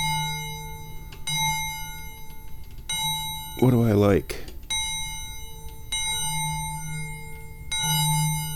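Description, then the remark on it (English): A bell is struck about five times at uneven intervals while its sound is being adjusted, each strike ringing out with bright, sustained metallic overtones; a man briefly speaks between strikes. “I'm the chairman of the Dubious Goals Committee, and I'm adjusting the sound of my bell.”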